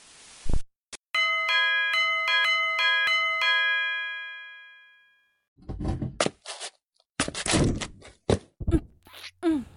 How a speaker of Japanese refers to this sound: 事件が起きたのは2015年3月15日17時24分。少年が自宅でくつろいでいたところに玄関のチャイムが鳴り響いた。